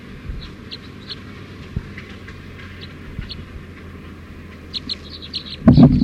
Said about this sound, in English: Wild bird going over the net. Stop. So wild bird went down for an approach, but went over the net again.